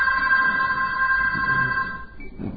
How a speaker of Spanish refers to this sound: El timbre del teléfono rebota en las paredes de la habitación y entra en sus oídos lacerándolos.